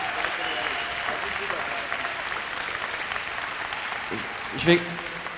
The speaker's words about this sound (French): Alors s'il n'y a pas de mots, on va faire du bruit. On les applaudit.